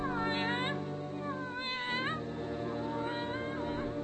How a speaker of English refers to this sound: Yes, it's a cat. We called him Jerry. Just a tomcat, color black, disposition friendly, usually.